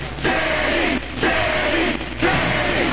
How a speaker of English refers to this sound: Stop shouting already.